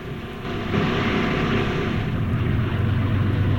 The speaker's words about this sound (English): The boat bobs up and down on the tide as it speeds along.